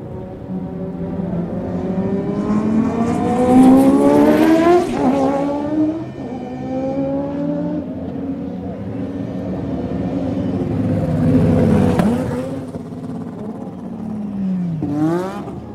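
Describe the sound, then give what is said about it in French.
Race cars accelerating out of the pit lane roar past one after another, engines climbing sharply in pitch as they accelerate hard, with a loud surge around the middle and another near the end, no voices. “Sortie des stands.”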